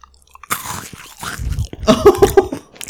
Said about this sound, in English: That was crunchy though, and I can tell you exactly what that is. It's a Malteser, isn't it?